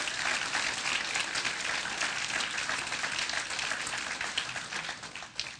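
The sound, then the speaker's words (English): A crowd at a Christmas Eve gathering at Calvary South Austin breaks into sustained applause for the kids, dense clapping filling the space steadily for several seconds at a fairly loud level, with no one speaking over it. “Let's give it another round of applause for the kids.”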